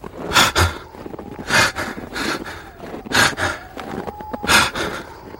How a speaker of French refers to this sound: Ils ne le savent pas, mais ce col est à 4400 mètres d'altitude. Et donc l'air se raréfie. Ils s'essoufflent.